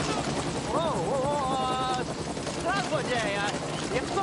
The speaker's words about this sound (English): A large double-rotored helicopter touches down behind him, and he turns and stands.